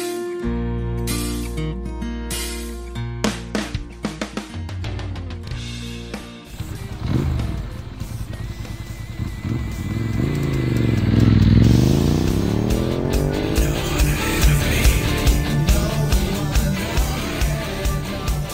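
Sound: motorcycle engine revving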